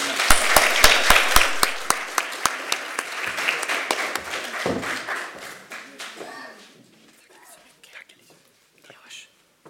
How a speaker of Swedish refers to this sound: Och jag tycker vi avslutar med en applåd.